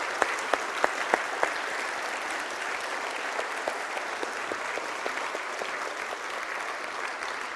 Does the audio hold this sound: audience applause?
yes